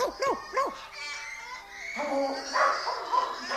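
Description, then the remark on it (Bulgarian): A dog barks sharply two or three times in quick succession, fairly loud, then carries on with fainter yelps and whines against a steady background hiss. “Кой разсърди така кучето?”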